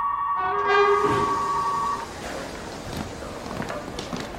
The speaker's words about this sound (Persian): قطار به زودی حرکت خواهد کرد. لطفاً پشت خط ایمنی بایستید.